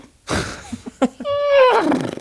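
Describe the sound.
A person imitates a horse: a breathy, rough burst and a few short grunts, then a loud, strained whinny-like cry whose pitch wavers and slides downward before trailing off.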